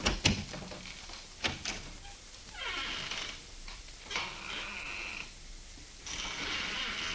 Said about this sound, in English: Let me show you. I'll step outside the office and close the door and then open it again.